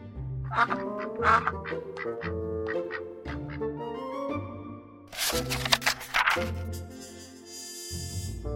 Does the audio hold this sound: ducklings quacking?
yes